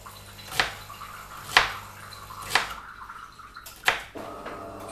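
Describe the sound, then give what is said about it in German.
A coffee machine runs in the background, with sharp drip-like ticks about once a second over a low steady hum, and nobody speaks. “Achtung, dass meine Kaffeemaschine im Hintergrund nicht ablenken lassen.”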